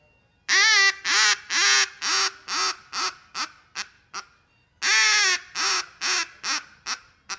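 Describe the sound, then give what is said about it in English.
A duck call blows feeding chatter, imitating the sounds ducks make when feeding: two descending runs of loud, nasal quacks, each series starting strong and tapering off into shorter, softer notes, with a brief pause between runs and no talking. “And he might throw in a little bit of feeding chatter like what duck sounds when they're feeding.”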